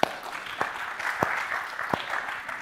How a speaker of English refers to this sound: Come on, don't stop at that one clap.